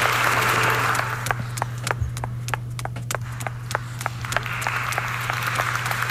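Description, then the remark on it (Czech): Audience applause at a celebration: a dense wash of clapping that thins to scattered, sharp individual claps before swelling again, with a steady low hum running underneath throughout. “To je fajn, oni tleskají mě.”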